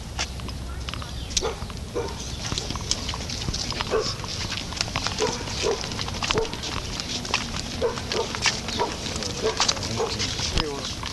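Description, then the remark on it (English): A dog that goes after everyone who comes by barks aggressively in rapid, repeated bursts throughout, loud, with other noise and indistinct voices in the background. “This dog is after everyone. He attacks everyone that comes by, and the lady gets angry when they try to get the dog away.”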